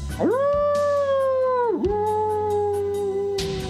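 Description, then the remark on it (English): Coyotes howl loudly and close by in the evening, one long wavering note that rises, dips, then holds steady before trailing off, with faint yips scattered through the background. “Coyotes. And they were close.”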